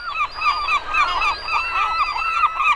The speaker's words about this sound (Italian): Intonarono in coro i gabbiani e con fare solenne, sordi alle sue proteste, gli voltarono tutti la schiena.